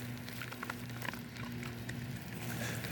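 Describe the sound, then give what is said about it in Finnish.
Soft, steady rain patters with scattered light drips and ticks, heard faintly alongside a low, constant hum and no voices. “Annoin koiralle naamuun, kun se on täällä sateessa.”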